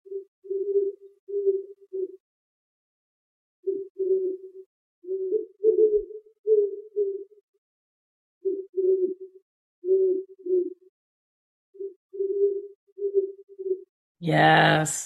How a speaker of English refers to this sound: Those are great horned owls, and they are in the trees all around my apartment. And I just stand outside on my porch in awe whenever they're vocalizing